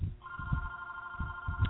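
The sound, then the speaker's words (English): A preacher's mobile phone rings during a Bible reading with a sustained, steady electronic tone that holds for over a second, while low muffled thumps sound underneath and no one speaks. “I'm sorry, my phone is ringing right now.”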